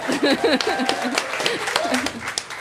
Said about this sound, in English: Clap for Arthur and Una.